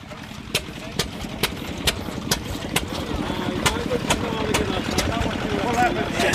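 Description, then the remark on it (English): Old tractor engines putter steadily, a low rhythmic chugging punctuated by sharp, irregular spluttering pops that carry on throughout. “Don't mind sitting amongst all this noise, you guys. All this putting and spluttering and...”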